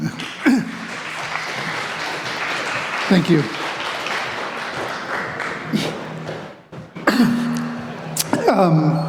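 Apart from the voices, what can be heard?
audience applause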